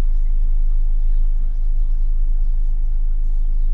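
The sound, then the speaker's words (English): Busy road traffic rumbles steadily and loudly, a constant low roar of car and truck engines with no break across the few seconds. “The traffic is just insane.”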